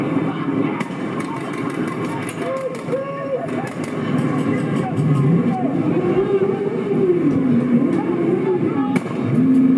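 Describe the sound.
Scattered sharp pops and bangs as police fire tear gas canisters at protesters, over a noisy crowd with shouting voices, while a wavering siren-like wail rises in the second half.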